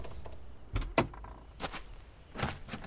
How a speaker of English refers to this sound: My door's stuck. Here, use mine.